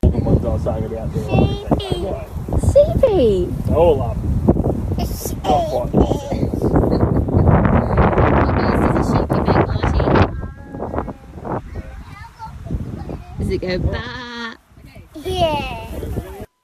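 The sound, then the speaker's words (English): A young voice calls out and chatters while sheep bleat repeatedly on a family property, all under steady gusty wind buffeting outdoors. “one of them was the sheep. And so when we first got to the property, the family property,”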